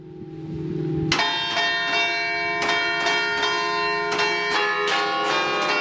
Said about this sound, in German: Das ist das Glockenspiel vom Glockenturm in Tranja.